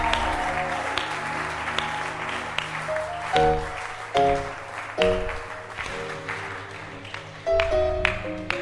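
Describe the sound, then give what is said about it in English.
A church audience claps steadily to welcome the pastor to lead communion, while sustained organ or keyboard chords play underneath. The applause is a dense, continuous patter with brief swells as the music shifts. No one speaks. “Clap your hands. And let's welcome our pastor to lead us to have the communion.”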